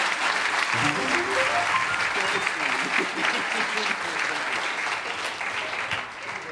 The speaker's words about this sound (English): You're a wonderful audience. Give yourself a big round of applause. That always works. That always works.